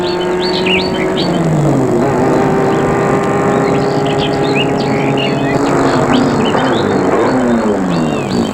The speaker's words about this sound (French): Il a arrêté la voiture devant la terrasse.